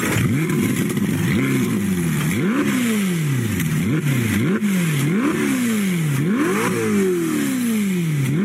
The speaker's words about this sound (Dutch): Ik vind het wel echt ontzettend mooi, Ferrari. V8, 620 pk.